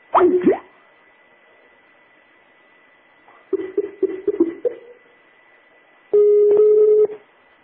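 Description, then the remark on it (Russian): A phone number is redialed: a rapid run of short touch-tone beeps, followed by a longer steady tone over a faint electronic hum, with no voices. “А, ну понятно, я еще раз позвоню.”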